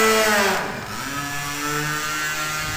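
A small model aircraft motor buzzes steadily, a high whining drone with shifting harmonic pitch that dips briefly before settling back into a continuous, moderately loud hum.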